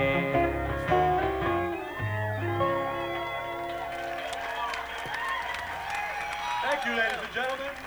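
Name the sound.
audience applauding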